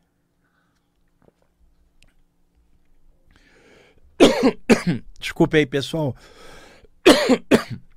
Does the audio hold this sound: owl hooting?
no